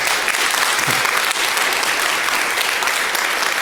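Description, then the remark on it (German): A large audience applauds a speaker after an informative talk, a dense wash of clapping hands that stays loud and even throughout with no voices standing out. “Bitte nochmal einen ganz großen Applaus”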